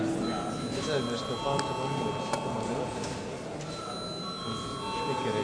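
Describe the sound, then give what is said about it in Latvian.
A voting bell in the Latvian Saeima rings continuously before a vote, a steady electric tone held for several seconds, with a faint hum of voices and movement underneath. “Lūdzu zvanu.”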